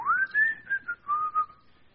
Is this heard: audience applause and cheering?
no